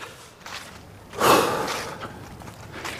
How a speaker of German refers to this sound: Einfach auch mal richtig einatmen, tief einatmen und dann die ganze Luft aus den Lungen herauslassen und dann wieder normal weiteratmen.